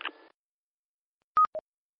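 Two short electronic tone beeps in quick succession, the first louder and higher-pitched than the second, like radio DTMF signalling, after a brief burst of noise at the start.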